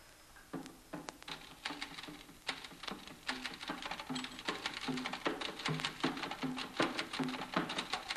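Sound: typewriter typing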